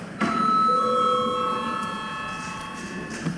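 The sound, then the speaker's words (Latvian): A bell rings out once to call a break in a parliamentary session, its bright sustained tone sounding clearly and then slowly fading away across several seconds, with no voices heard over it. “Lūdzu zvanu.”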